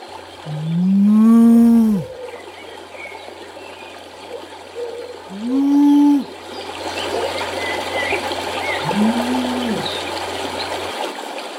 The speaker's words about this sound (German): Unser Tropfen springt auf eine Wiese. Und auf der Wiese, da sind Blumen, da ist Licht, da scheint die Sonne. Und tatsächlich sind dort auch Kühe.